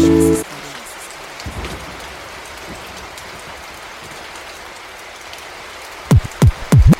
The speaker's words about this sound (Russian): На улице гроза, дождливая погода, и случилось счастье, сын родился в полночь.